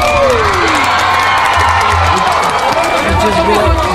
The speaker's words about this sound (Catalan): Cada vegada que algú d'aquesta taula publica un llibre es mereix un aplaudiment per part de la resta. Així que... Bravo!